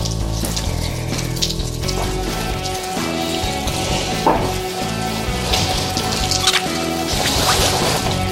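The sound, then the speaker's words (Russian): Cognac trickles and drips steadily for several seconds as it is poured a little at a time for foie gras, a continuous wet pattering over a busy background hum with faint tonal layers. No one speaks. “Фуагра без коньяка, я тебе доложу, это вообще ни о чем. Коньяк дает замечательный, Да куда, блин? Капельку так, капельку.”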